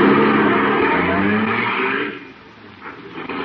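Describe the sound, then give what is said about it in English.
A car engine, just started with the starter, runs with a loud, rising rumble for a couple of seconds, then quickly fades as the car pulls away, leaving a quieter background. “The car might be hard to start again some morning.”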